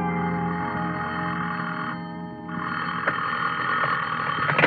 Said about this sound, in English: The only reason I woke up then was because somebody was ringing a telephone in my ears.